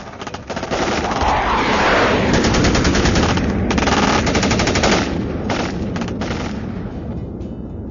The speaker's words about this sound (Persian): وقتی هواپیماش مورد اصابت گلوله‌های ضد هوایی قرار گرفت، اون دیگه به سمت پایگاه بر نگشت.